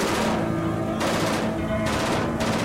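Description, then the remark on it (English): Loud, sustained gunfire crackles without pause, with three harsh bursts swelling roughly a second apart over a dense rumbling roar. No voices are heard. “Stay low. We don't need a stray bullet hitting us up here.”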